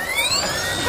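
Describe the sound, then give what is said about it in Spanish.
A motorbike engine revs freely in neutral with its wheel in the air, its whining pitch climbing steadily and continuously, loud, with no voices over it. “En vacío con la rueda en el aire suena así, mira.”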